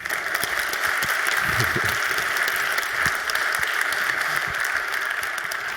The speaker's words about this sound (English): Give him a warm applause for his talk.